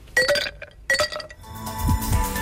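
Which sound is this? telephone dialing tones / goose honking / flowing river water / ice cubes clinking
ice cubes clinking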